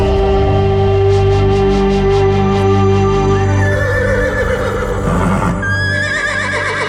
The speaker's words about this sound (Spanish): ¡Ese relincho!